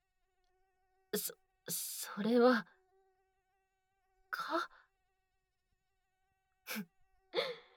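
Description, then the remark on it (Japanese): A thin, steady whine of a single mosquito, released from a bag, hovers faintly through the whole stretch, while a woman speaks and gasps in a few short, sharp bursts over it. “何か特別な拷問具でも出すかと思ったら、そんな蚊一匹が何だっていうの。”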